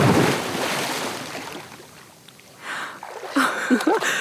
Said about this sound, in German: Am Pool angekommen, überwinde ich mich, werfe meine Unterwäsche zur Seite und springe ins Wasser.